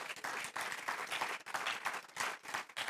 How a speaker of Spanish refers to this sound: ¿Podemos darle un aplauso al Señor, hermanos?